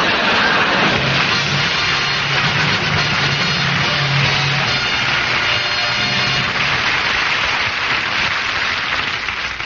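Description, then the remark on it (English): A car with tight brakes and a very fast-pickup accelerator roars and revs as it drives off, under a loud, steady rushing hiss, with a low droning hum wavering beneath it for the whole stretch. No one speaks. “The brakes are tight, and the accelerator has a very fast pickup.”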